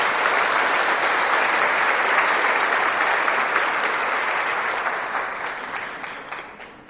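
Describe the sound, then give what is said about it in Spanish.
A crowd breaks into sustained, dense applause for the Lord, many hands clapping steadily and loudly, then tapering off slightly toward the end. No voices stand out over the clapping. “Sí, dale el aplauso al Señor, dale el aplauso.”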